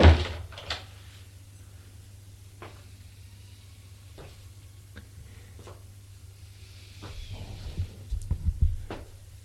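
The door of a home shuts with a solid thump at the start as a visitor is brought inside, followed by a few scattered clicks and knocks over a low, steady hum.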